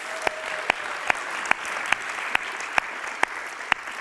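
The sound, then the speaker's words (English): An audience applauds Dr. Rogers for earning his doctorate, a steady, dense wash of clapping, with one sharp, evenly timed clap cracking out above it roughly twice a second. No one speaks. “So let's clap and applaud.”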